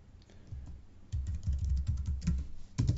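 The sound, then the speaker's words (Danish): Rapid, clear keyboard typing, a quick run of clicking keystrokes with a brief pause before a final burst, as two square brackets on each side and the word "galleriside" are typed to make a link to a gallery page. No one speaks. “Jeg laver 2 skarpe parenteser til den ene side, til den anden side, rykker lige cursoren ind, og så skriver jeg galleriside.”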